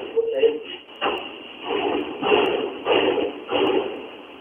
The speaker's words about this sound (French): Cette radio est attaquée par les forces publiques, les militaires. Ils tapent dans les portes.